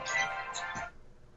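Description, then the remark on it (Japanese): A phone ringtone for an incoming call from an unknown caller plays briefly, a bright electronic tonal melody with shifting notes, clear, lasting under a second before cutting off into quiet. “一回電話に取ります。”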